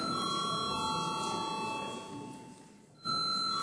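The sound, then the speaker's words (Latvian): An electric bell rings continuously in a parliamentary plenary session to call a vote on a bill, with a steady, high, metallic tone, fading briefly near the end before sounding loudly again. No one speaks over it. “Paldies, lūdzu zvanam.”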